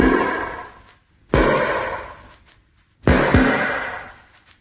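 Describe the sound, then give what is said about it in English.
Three heavy metallic knocks on a ship's hull, spaced unevenly, each one booming out and ringing down slowly before the next strike. No voices. “It's as though somebody were walking round the ship and tapping it to see what it was made of.”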